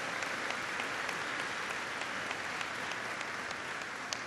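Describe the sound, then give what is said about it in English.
A crowd applauds steadily, a dense wash of many hands clapping at an even, sustained level with no voices standing out. “Don't just applaud about it.”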